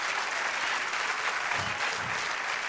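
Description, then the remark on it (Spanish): Steady, dense applause from an audience at a church service, applauding the Lord, a continuous wash of many hands clapping at a fairly even loudness throughout, with no voices standing out above it. “Dan aplauso al Señor.”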